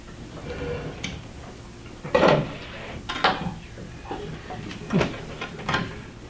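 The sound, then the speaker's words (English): A chair being shifted into place: a few scraping bumps and knocks spread over several seconds against a quiet background hum, with no one speaking. “You can put your chair up there, Doctor.”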